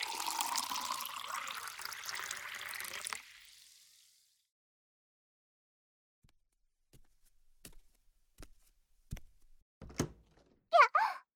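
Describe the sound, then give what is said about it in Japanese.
Cold tea pours steadily into a glass for about three seconds, then a pause, followed by a few soft, scattered knocks and a brief clink near the end. No one speaks. “よく冷えたお茶が飲みたいかな。あ、入れてくれるんですか？”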